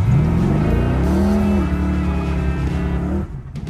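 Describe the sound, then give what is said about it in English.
A car engine revs loudly, its pitch climbing then holding at a steady roar before cutting off near the end, for the Cruisin' for Camp Courageous car show in Monticello. No one speaks. “Sunday, May 18th, it's the Cruisin' for Camp Courageous car show, and the whole camp is revving up for a day of family fun.”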